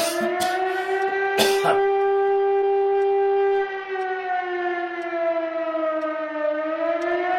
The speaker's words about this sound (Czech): Na konci této železné trubky je elektromotor a na hřídeli toho elektromotoru je obyčejná mechanická siréna.